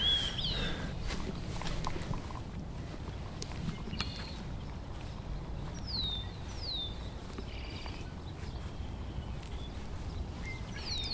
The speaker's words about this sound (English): That's a song sparrow. They're one of the first songbirds to sing each spring. And they have very complex, beautiful songs. They're chattery, but they're also musical. And each song sparrow has a repertoire of 8 to 10 songs.